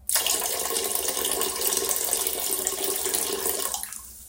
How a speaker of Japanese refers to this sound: じゃあね、せっかくなんで、どれぐらいおしっこ出てたかね、トイレにちょっと今流してみるので、すごい量なんで聞いてください。